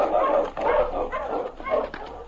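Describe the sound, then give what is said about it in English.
Several sled dogs, including King and Husky, bark and whine in an excited, overlapping chorus as they are urged on, a steady run of yelps and whimpers with no pauses between them. “On, King! On, Husky!”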